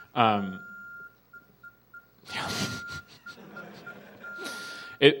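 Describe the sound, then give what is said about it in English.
Electronic beeping tones: a thin, steady high-pitched tone holds for several seconds, broken by short harsh bursts of noisy, crackly chirps, ending with a sharp blip. “Yeah, I know what you're expecting when I said beep booping, but this is it.”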